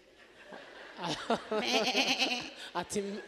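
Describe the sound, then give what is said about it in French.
A voice imitates sheep bleating: a few wavering, quavering baa calls in quick succession, fairly loud, with a brief pause before a final shorter bleat. “Et les brebis qui regardaient Moïse.”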